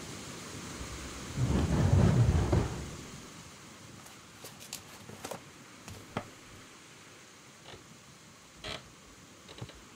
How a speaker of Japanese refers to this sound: それにいつまでもこのままでいたら吹き込む雨で私まで濡れてしまう。